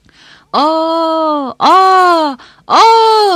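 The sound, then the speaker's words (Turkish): A voice holds a long, strained 'aaa' three times in a row, each loud and about a second long with a slightly falling pitch, separated by brief quiet breaths; a person with a hand on the throat and mouth wide open tries to make the sound as the voice gives out. “Gittikçe küçülen bir a sesi.”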